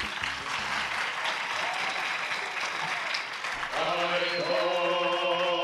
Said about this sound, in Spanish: Y con esto, y no un bizcocho, sino un gran aplauso, empezamos.